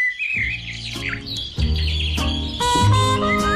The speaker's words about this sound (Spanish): Llegan los pajaritos del tiempo con José Miguel Viñas.